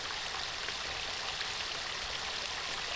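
waterfall

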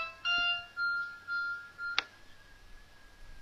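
mobile phone ringing

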